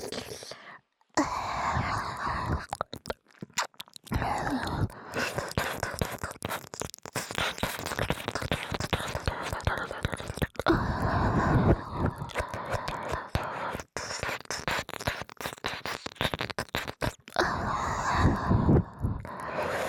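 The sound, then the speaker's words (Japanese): Wet, rapid licking and tongue sounds blended with breathy, whispery exhales, running almost continuously for about twenty seconds with a few brief pauses, fairly loud. “吐息レロレロ、さっきのレロレロに吐息を混ぜたエッチエッチ吐息を混ぜます。”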